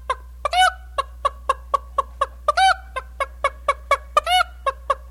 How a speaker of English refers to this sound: old hen finds a hen house and she lays a good egg and she'll come out and sing a different song.